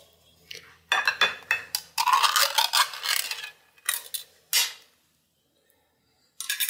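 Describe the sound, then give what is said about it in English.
Uneven bursts of metallic grinding and scraping as a can opener cuts around a food can, with sharp clicks between turns, then a brief pause and a final clink. “But let's go ahead and open this can and see what the difference is.”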